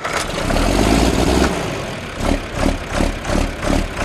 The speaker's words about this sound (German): Er ist niegelnagelneu, sein Lack glänzt in der Sonne. Einen Acker hat dieser Traktor noch nicht befahren, doch das soll sich bald ändern.